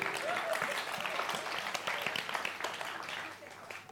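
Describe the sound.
A group of children applauds themselves, giving themselves a big hand with dense, steady clapping that holds at an even level for several seconds, mixed with a few faint young voices calling out.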